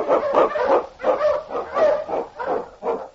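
King, the Wonder Dog, a husky and Eskimo lead sled dog for Sergeant Preston in the Yukon, barks loudly, about seven full, drawn-out barks in a quick, steady rhythm, with no voices around them.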